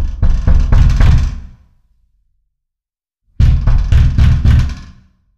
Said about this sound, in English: I'll never forget, late one evening, we had someone literally banging on our door.